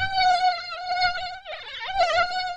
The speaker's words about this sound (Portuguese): No caso do mosquito, o voo captado pelo aparelho é o que produz o barulho que tanto atrapalha o nosso sono.